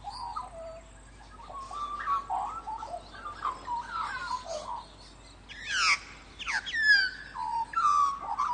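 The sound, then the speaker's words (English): A magpie sings a long, warbling song of fluting, gurgling phrases that rise and fall in pitch, unaccompanied, with brighter, sharper notes near the end; the song is a regional, territorial variation of magpie song. “so that when you set up a territory, it is clearly a different territory and a different song. So you get regional variations, you get territorial variations, and each has a stamp of individuality and of that bird on it.”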